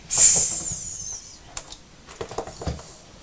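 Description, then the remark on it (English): A voice imitates a snake with one loud, sharp hiss that fades out over about a second, followed by a scatter of light clicks and taps. “That's what snakes say, they hiss.”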